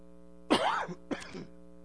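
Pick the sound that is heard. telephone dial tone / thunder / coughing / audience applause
coughing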